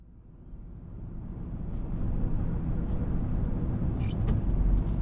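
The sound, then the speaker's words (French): A heavy truck engine, driven by a woman truck driver, is started and rumbles deeply, growing steadily louder as the truck pulls away, with a few brief airy hisses near the end. No one speaks. “Contact, moteur en marche et c'est parti!”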